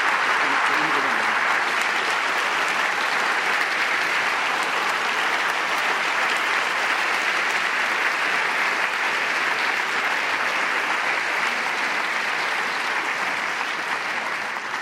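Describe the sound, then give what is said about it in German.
Sustained applause from a large audience, a dense steady clatter of many hands clapping at an even loudness for the whole stretch, with no voices rising above it. “Ganz, ganz herzlichen Dank für Ihren Applaus, aber zu viel Weihrauch schwärzt den Heiligen.”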